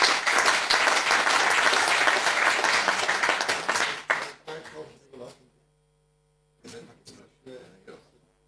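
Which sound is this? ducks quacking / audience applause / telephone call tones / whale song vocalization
audience applause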